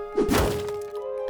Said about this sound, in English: Come on, you got any bonk sounds?